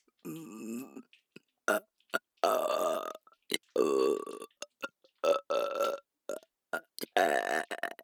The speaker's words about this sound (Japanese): あら、ゲップ飲め。